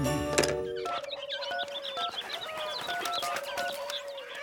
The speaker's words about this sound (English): Yes, I got the calling birds. Yeah, the man just dropped them off.